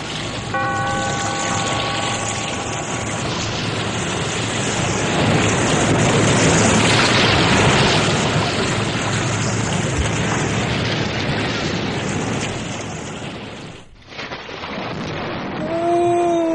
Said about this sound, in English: Be here in this lonely cave by the restless sea once again next time for another immortal tale in The Weird Circle.